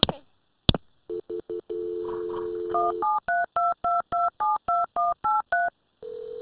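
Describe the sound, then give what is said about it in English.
During an emergency call about a car accident in Union City, a phone line clicks, a few short tones beep, then a steady tone gives way to a rapid run of about ten evenly spaced DTMF dialing beeps as the call is transferred to paramedics, ending in a longer ringback-like tone, clear. “Okay, stay on the line. I'll connect you with the paramedics.”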